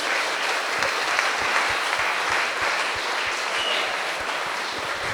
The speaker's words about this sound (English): I think whilst we're up, we should all just give another round of applause to everyone who's spoken today, because speeches have been fantastic.